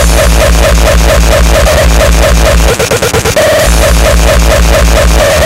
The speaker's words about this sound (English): Fat distortion.